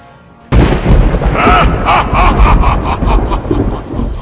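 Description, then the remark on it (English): A thunder sound effect cracks in abruptly after a brief quiet moment, then rolls on as a loud, sustained rumble with crackling bursts for about four seconds. “Alright, had to add the thunder in there.”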